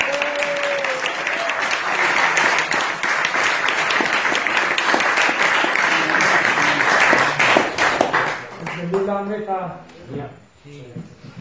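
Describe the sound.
A crowd breaks into sustained applause for a man who named Prabhupada's first disciple, dense clapping holding steady for about eight seconds before fading as a voice begins speaking.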